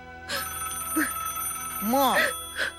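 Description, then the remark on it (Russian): A telephone rings with a string of bright, tonal electronic bursts, one rising and falling in pitch, repeating several times over a steady low hum. “Алло, да я.”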